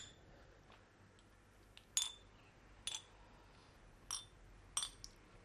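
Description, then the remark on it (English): Stainless steel drinking glasses holding whiskey with whiskey stones clink together four times in a toast, short bright metallic rings spaced about a second apart, fairly quiet against a faint background hiss, with no talking. “Okay, let's do the glass. Stainless steel. Stainless steel, yes. Cheers. Cheers.”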